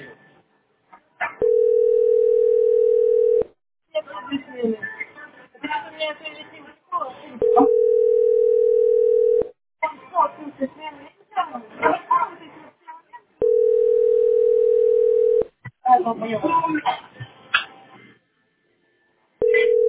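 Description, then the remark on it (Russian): A telephone ringback tone repeats over and over, a steady mid-pitched hum lasting about two seconds each time, with people talking in the gaps between the rings. “Там бесконечные гудки.”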